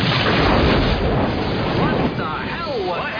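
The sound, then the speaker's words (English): The number one engine of Air Force One blows out with a loud, heavy boom that turns into a dense, roaring rumble, easing slightly after two seconds as a voice briefly breaks through the noise. “What the hell was that? What happened? You lost power, number one! Lost power? Hell, we lost the whole engine!”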